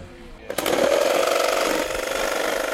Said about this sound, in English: has taken out the power tools